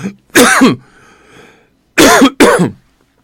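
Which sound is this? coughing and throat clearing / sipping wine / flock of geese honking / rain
coughing and throat clearing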